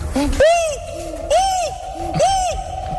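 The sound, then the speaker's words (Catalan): A human voice imitates a gibbon's call with three rising-and-falling whooping hoots, each swooping up in pitch and sliding back down, evenly spaced and fairly loud. “El Gibón, ¿lo puedes volver a repetir?”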